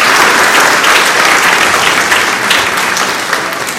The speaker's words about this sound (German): Ja, das war aber mal ein Applaus.